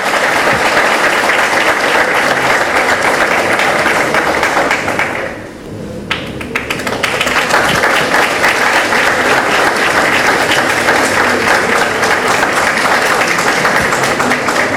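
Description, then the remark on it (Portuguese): Loud, sustained applause from an audience, a dense wash of clapping that briefly dips and thins around the middle before swelling back to full strength, with no one speaking, at a ceremony where a tribute plaque is presented, applauding mayor Sérgio Gabriel Seixas and cabinet secretary Luciana Pereira. “Uma salva de palmas para ambos, por gentileza.”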